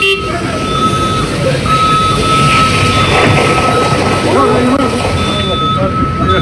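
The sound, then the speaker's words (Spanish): Airport ambience as airport security teams arrive to put out a burning tractor giving off heavy smoke: a loud, steady roar of engines and vehicles with a sustained whining tone running throughout, and indistinct voices murmuring underneath. “Claro, llegan los equipos de seguridad del aeropuerto para apagar el incendio de este tractor que se está incendiando, emanando una cantidad de humo increíble.”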